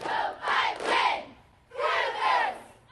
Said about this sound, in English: The first thing you should know about cheerleading camp, it's really, really loud. Okay, that's the only time you have to hear that, but just know it was the sound that punctuated every cheer.